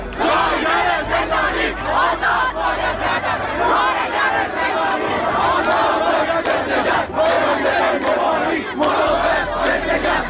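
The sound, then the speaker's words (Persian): A large protest crowd of workers and students chants and shouts together in a dense, continuous roar, voices rising in loud rhythmic bursts with steady crowd noise underneath throughout. “بخشی از ویدئوی مورد اشاره رو با هم ببینیم.”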